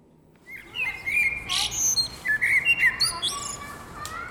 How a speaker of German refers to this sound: Ein sonniger Samstagvormittag im Berner Lengasquartier. Die Amseln zwitschern, Kinder spielen, hin und wieder schleicht ein Auto vorbei und vereinzelt ziehen kleine Grüppchen junger Menschen durch die Straßen.